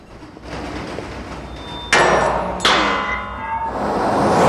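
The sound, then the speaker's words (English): A steady rumbling roar with two sharp metallic clanks that ring out as trains trundle along the tracks under a railway bridge, growing louder toward the end. “Trains trundle under the railway bridge.”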